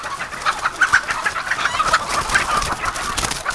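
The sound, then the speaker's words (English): A large flock of about 350,000 white leghorn hens housed under fluorescent lights at an egg ranch, clucking and chattering together in a dense, continuous chorus, fairly loud, with no voices. “The 350,000 white leghorn hens housed under the fluorescent lights of Farmer John's egg ranch are hooked on power.”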